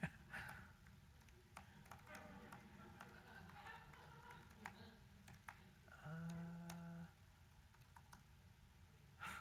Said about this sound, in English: I can't even see what I'm typing.